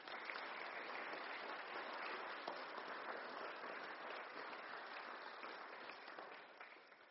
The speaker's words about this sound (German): Und danke ganz, ganz herzlich und nochmal ganz einen grossen Applaus für dich.